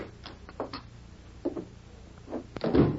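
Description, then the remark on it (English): A few sharp wooden clicks and knocks, like a latch and handle being worked, then a louder creak and thump as a door swings and shuts, with no talking. “when a knock disturbed his breakfast, he didn't get up to open the door.”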